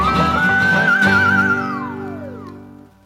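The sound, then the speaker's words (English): A slide whistle rises, wobbles with a quick vibrato, then glides steadily downward in pitch over a sustained musical backing, fading out near the end. “Yeah, slide whistle is just a funny instrument.”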